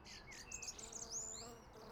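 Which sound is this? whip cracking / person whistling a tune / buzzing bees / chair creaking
buzzing bees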